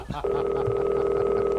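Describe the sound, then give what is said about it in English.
A rotary telephone: a steady dial tone hums continuously after a brief click and rustle at the start, a single sustained mid-pitched drone at fairly loud, even volume with no talking over it. “Yeah, let's call I've already fired up the rotary.”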